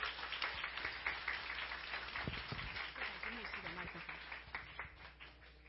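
A crowd applauds steadily for several seconds, a dense patter of many hands clapping at an even, moderate loudness with no clear voices over it.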